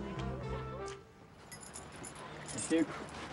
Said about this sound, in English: As Louise is moving out, she hands the keys to an official.